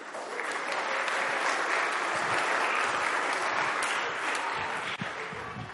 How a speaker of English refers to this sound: Thank you very much. Round of applause for our thespians.